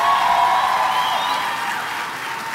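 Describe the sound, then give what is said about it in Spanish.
An audience applauds loudly and steadily for the Lord, a dense wash of many hands clapping together that holds strong throughout before easing slightly at the end. “Si es aplausos para el Señor, dénselo fuerte.”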